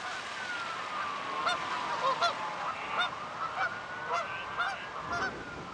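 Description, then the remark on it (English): A startled flock of geese honks repeatedly in overlapping bursts, several birds calling at once with agitated, irregular rhythm, at a small lake near the Kauffman Foundation in a city, over steady outdoor background noise. “city bustling around them, geese stroll and poop around a small lake near the Kauffman Foundation.”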